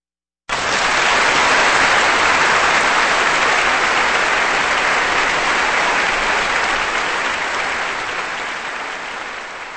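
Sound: concert hall audience applause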